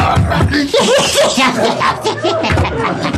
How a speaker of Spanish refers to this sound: Y el asesino lanza un puñetazo con toda su fuerza.